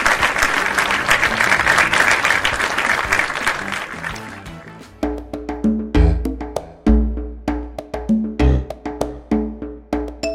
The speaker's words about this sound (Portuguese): Para toda essa galera, o nosso muito obrigada e vamos fazer aquele lindo, lindo, lindo aplauso coletivo.